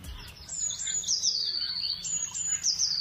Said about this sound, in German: Also das hier zum Beispiel ist eine Blaumeise.